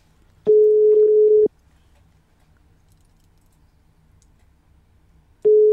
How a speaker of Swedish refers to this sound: Mm, signalen går fram. Alltid en början.